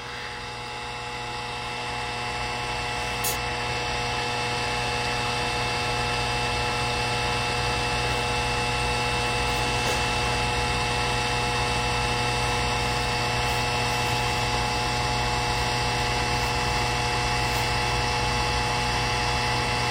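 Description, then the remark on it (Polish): A floor washer's charging and cleaning base runs its fan-drying cycle, drying off the cleaning fluid, giving off a steady whirring hum with a few faint clicks, continuous and unchanging throughout, with no one talking. The drying runs for about 40 minutes and then switches off by itself. “Że ten wentylatorek jest i rzeczywiście ją osusza z tego płynu.”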